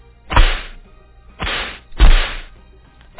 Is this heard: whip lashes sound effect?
yes